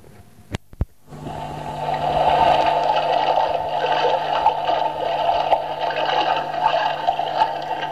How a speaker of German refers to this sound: Leicht war das nicht auf diesem reißenden Fluss, das könnt ihr euch ja vorstellen. Und nun wollen wir mal hören, wie die beiden paddeln.